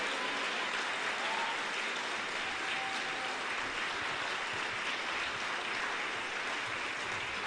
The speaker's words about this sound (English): Come on, give Jesus a big, big hand clap.